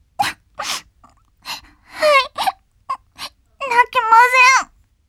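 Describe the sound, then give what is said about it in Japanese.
A person cries and whimpers: short breathy sniffs and gasps, then a shaky, wavering wail that rises and trembles over a couple of seconds. “泣くと余計子供、みっともない。”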